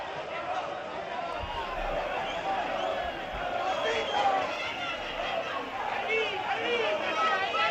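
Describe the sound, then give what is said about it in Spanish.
A large stadium crowd at a football match at Santo Domingo involving Alcorcón roars and shouts continuously during a scuffle between players, a dense wall of many voices with occasional higher whistles and cries rising above the steady din. “No, digo que estamos a 5 segundos de que esos gritos de fondo entren en el acta directamente.”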